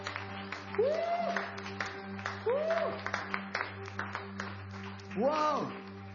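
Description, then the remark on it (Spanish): An audience applauds the King of Kings, Lord of Lords, steadily for several seconds in a dense, crackling patter, with a few rising vocal whoops from the crowd breaking through over a low constant hum. “¿Cómo se pueden dar un aplauso al Rey de Reyes, Señor de Señores?”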